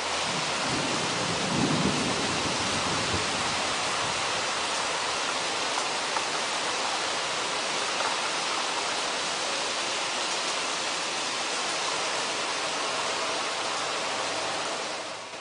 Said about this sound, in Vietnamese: Chúng tôi dựng liều trong một lùm cây nhỏ. Mưa đổ xuống ào ạt.